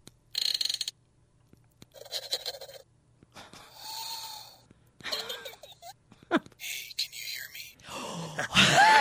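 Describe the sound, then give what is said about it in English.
A small gadget that looks like a little receiver and puts out a haunting sound once every 6 minutes gives off an eerie, ghostly sequence of breathy whispers, hissing bursts and a wavering moan in uneven spurts, ending with a brighter swelling rush and a short high whistle. “Anyway, once every 6 minutes, this thing puts out a haunting sound.”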